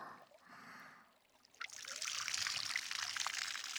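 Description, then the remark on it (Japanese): Water pours and splashes steadily, rinsing the remaining soap suds off a body once more, starting after a softer hiss and swelling into a loud, continuous spray that runs to the end. “まだ少し泡が残っています。もう一回流しますね。”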